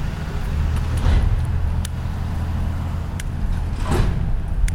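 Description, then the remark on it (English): A loud recycling truck rumbles past outdoors on a very cold morning, its heavy low engine drone steady throughout, with sharp metallic clanks and two louder surging bursts as it moves along. No one speaks. “That is one loud recycling truck or whatever that is.”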